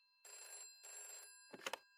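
A telephone bell rings twice in two even bursts, loud and trilling, then a brief clatter follows as the receiver is picked up, on Saturday 16 May 1942 at 8:40 p.m. No one speaks.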